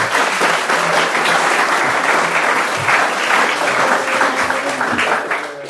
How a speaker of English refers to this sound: a round of applause, if you will.